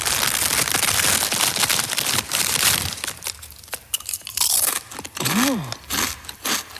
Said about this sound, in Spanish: que mete al inicio de la canción como saca unas patatas fritas y se las come.